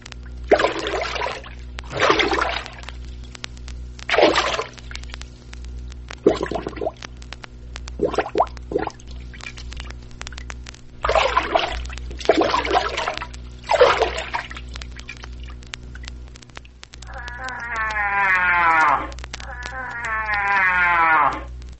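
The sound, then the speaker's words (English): A series of loud, irregular water splashes and sloshes, about eight of them, imitating a cow moose wading in the water, followed near the end by two long, moaning tonal calls. “All these sounds, well performed and in proper sequence, give a perfect imitation of a cow moose moving in the water.”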